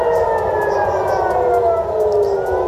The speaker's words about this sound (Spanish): Las alarmas antiaéreas suenan en Israel. El ejército intenta repeler la nueva oleada de misiles lanzada por Irán, que también está atacando a los países del Golfo.